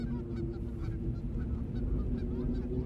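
A flock of geese honks continuously, overlapping calls blending into a dense, steady clamor at an even level throughout, with no voices.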